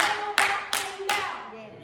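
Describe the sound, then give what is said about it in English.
Four hard, sharp hand claps land in a steady, even rhythm, each one bright and ringing out briefly over a faint sustained tone in the background. “Sometimes when I clap my hands, I clap them real hard.”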